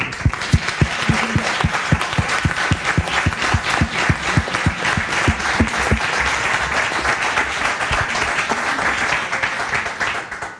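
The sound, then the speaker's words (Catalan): An audience applauds steadily for about ten seconds at the close of library gatherings, dense overlapping claps that stay loud and even throughout, with no talking over them, applauding the organizer. “I és que les trobades posa que les ha organitzat la biblioteca i la veritat és que totes les trobades el mèrit és de l'Antonio Bueno i demanaria un aplaudiment per l'Antonio perquè ho ha fet tan bé.”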